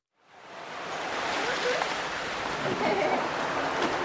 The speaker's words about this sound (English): The winds blow in Juba's Gudel neighborhood, raising the dust as it starts rain